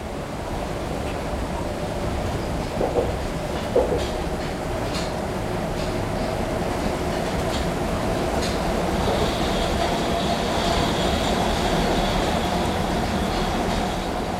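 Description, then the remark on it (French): A metro train rolls steadily along the rails with a continuous rumble, a faint high whine of wheels rising in the second half and a few small clanks, with no voices. “Sait-on bien, lorsqu'on prend le métro, qu'on ne prend jamais tous les métros ?”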